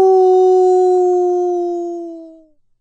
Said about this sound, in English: I shrieked at the top of my lungs.